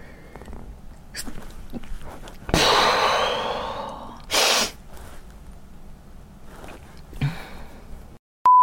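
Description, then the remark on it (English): A loud sneeze bursts out after a few quiet breaths, followed moments later by a short sharp sniff or second blast of air, then quiet breathing. “I'm gonna sneeze.”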